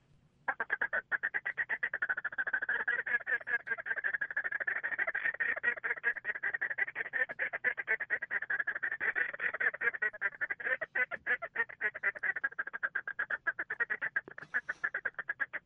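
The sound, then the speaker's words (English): A Taylor Talker duck call blown in a fast, steady feeding chuckle, a rapid stream of loud clucking pulses mimicking a crowd of ducks feeding, running unbroken for about fifteen seconds with no talking. “It kind of gives illusion of two or three different ducks on the water while they're feed chuckling, and it just sounds like a whole murmur full of a refuge full of ducks on their eating.”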